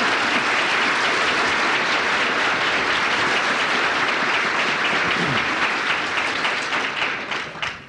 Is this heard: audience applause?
yes